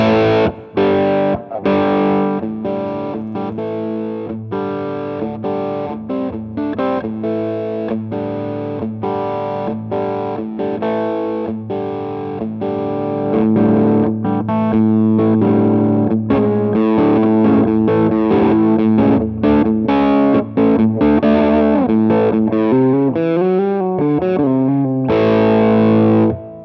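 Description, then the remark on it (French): Electric guitar played through a distortion pedal with the gain turned down, giving a gritty but restrained tone over a steady sequence of chords and notes, with a sweeping, wavering passage near the end. “Je reste sur l'éléphant et je vais baisser le clip, là j'étais au 3 quarts.”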